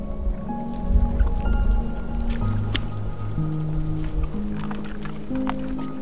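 Soft rustling and squishy tearing as the juiciest grass blades are plucked by hand to gather for an Icelandic horse, repeating irregularly over a steady, gentle musical drone with no talking.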